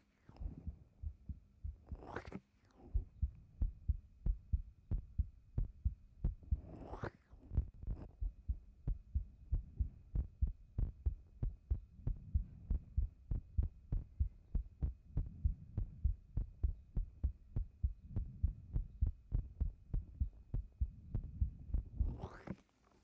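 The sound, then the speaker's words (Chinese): A steady, fairly quick heartbeat thumps close and muffled, as if heard with an ear pressed to a chest, with a few brief rustles of movement along the way. “说实话，刚看到先生的时候，人家的心跳就不快了呢。真的，不信给你听听。”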